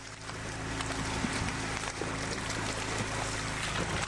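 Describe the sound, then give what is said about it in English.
Flying Asian carp leaping and splashing out of the water again and again on the Illinois River, scattered sharp splashes over the steady drone of a boat motor, with no voices. “Now, well, I'm afraid that's it sounds like the sound of the flying version, variety of species of the Asian carp.”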